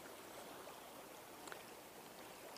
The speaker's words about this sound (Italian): Dovreste sentire, spero tanto, anzi, che sentiate questo rumore d'acqua che è meraviglioso.